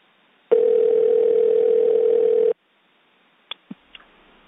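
A loud, steady telephone dial tone of an outgoing call to a hospital in Michigan holds for about two seconds with a thin, phone-line quality, then cuts off, followed by silence and a few quick clicks and blips.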